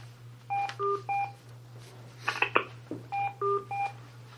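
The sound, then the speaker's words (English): Touch-tone phone keys being dialed to join a teleconference: two quick runs of three beeping tones, separated by a brief clatter of handling noise, all over a steady low electrical hum. No one speaks. “For the commissioners on the phone, you will need to hang up and dial a different phone number to enter the executive session.”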